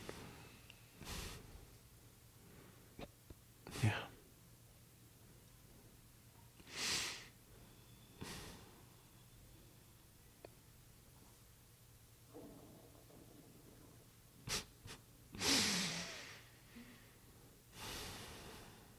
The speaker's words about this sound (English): See, you're breathing in and breathing out the whole room and everyone in it.